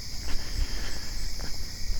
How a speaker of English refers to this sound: There's cicadas howling. There's crickets cricketing. All kinds of fun stuff.